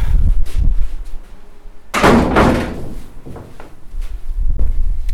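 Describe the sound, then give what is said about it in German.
The heavy wooden main door of a large Baroque church swings open with a loud, resonant creak and rumble, followed by scattered footsteps and faint shuffling as people step inside the echoing church. “Wir stehen jetzt vor der Haupttür, grosse Türen hier.”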